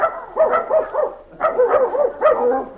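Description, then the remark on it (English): A chorus of dogs and puppies barking and yipping in quick, overlapping bursts at a dog pound, steady, with no voices. Higher puppy yaps from a dog's litter of puppies mix with fuller barks. “Judy and Randolph are at the dog pound, picking out a new mascot for the baseball team.”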